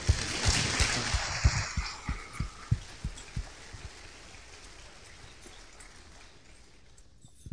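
An audience applauds, a dense patter of clapping that starts strong and gradually dies away over several seconds, punctuated early on by a series of heavy, regular low thumps.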